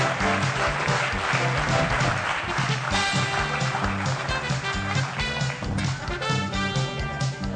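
An audience claps steadily and loudly for several seconds, a dense, continuous patter mixed with bright, rhythmic music playing underneath, with no one speaking.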